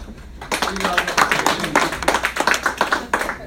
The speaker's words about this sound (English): A round of applause.